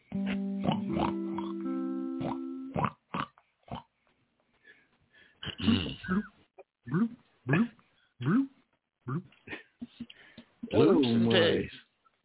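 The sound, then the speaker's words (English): A pig oinks and grunts in a series of short, snorting bursts with brief pauses between them, ending in a louder squealing grunt; a few electronic bloop tones sound at the start. “Bloops and pigs. That's all we do.”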